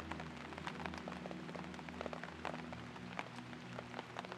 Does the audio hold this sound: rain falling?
yes